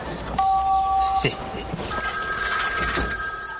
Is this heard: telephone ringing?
yes